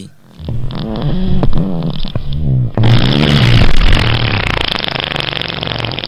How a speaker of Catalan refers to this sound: En aquell mateix moment, el bou va fer un pet.